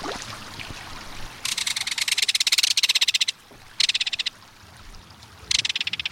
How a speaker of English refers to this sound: There's no other sound along a stream or waterway quite like the reverberating metallic call of a belted kingfisher. As the showy crested kingfisher flies overhead, strong staccato wing beats and white wing patches flash a Morse code pattern.